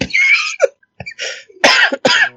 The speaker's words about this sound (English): No, vulgar. She's just going to cough.